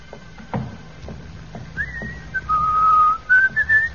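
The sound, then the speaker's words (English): A woman whistles a wandering melodic tune in a hallway outside an office, the pitch sliding up and holding bright, sustained notes, fairly loud against a faint background hum. “Do you think you should whistle so loudly, Miss Brooks?”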